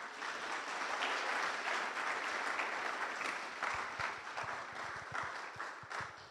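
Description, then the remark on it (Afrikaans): Steady applause from an audience, a dense wash of many hands clapping at an even loudness throughout, with a few sharper individual claps standing out toward the end. “Måske få mig andre klap.”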